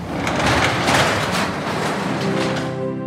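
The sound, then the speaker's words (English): A very large garage door rumbles open to reveal a monster truck, with a steady, loud mechanical rattle and a rhythmic motor whir, ending on a humming tone as it finishes rising. “How about we see just how big the monster trucks are by opening this garage door?”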